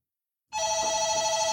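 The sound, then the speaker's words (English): A front desk telephone rings, starting abruptly after a moment of silence with a steady, loud electronic trill that holds its bright tone to the end. “have been talking for about an hour and a half when the front desk phones.”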